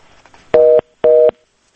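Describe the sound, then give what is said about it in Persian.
A telephone busy tone after a caller's line to a radio phone-in show drops: two loud, steady electronic beeps of about a quarter second each, separated by a brief gap, with faint line noise before them and silence after. “و فکر میکنم تماس ما قطع شد.”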